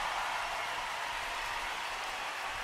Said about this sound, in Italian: Un applauso a questa ragazza.